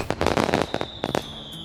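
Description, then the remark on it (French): A rapid cluster of fireworks bursts, several sharp cracks and pops crowding together, then a few scattered bangs and a faint lingering whistle as the display fades. “C'était le bruit du feu d'artifice.”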